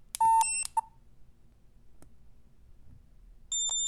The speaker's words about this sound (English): And those two high-pitched beeps indicate that is a $20 bill. The way it works, as I get one more bill, is you got one low beep for $1 bill, two for a $2 bill, and three for five.